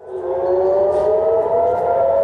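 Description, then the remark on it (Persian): A civil defense air raid siren wails steadily and loudly in northern Israel, around Kiryat Shmona, after more than 90 rockets were fired from southern Lebanon; its sustained rising tone holds across the whole stretch with a faint background hum and no voices. “در گرفتن دوباره آتش در محوطه شهرک کریات شمونا در شمال اسرائیل، صدای آژیر خطر بار دیگر در منطقه شمال اسرائیل شنیده شد.”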